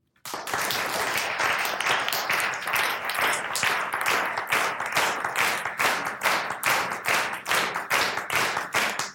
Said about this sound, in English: Now this time I'll invite, as you're clapping, listen to those around you and see if you can match up with some of the people clapping around you and do the same kind of a rhythm or a complementary rhythm. Let's try that together.